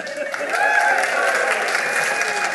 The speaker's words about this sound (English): Give him a better round of applause than that.